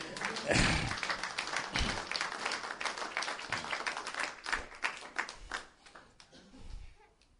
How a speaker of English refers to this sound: And that's where you ought to have given your pastor an applause while he's away.